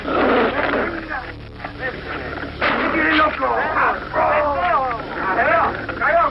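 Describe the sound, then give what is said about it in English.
Pit bulls bark and snarl fiercely in an illegal dog fight, set against each other by their trainers, a loud, continuous tangle of growls, yelps and sharp barks with no pause across the whole stretch. “Set in clandestine meeting places because it is illegal, pit bull trainers face their dogs against each other in a battle to the death.”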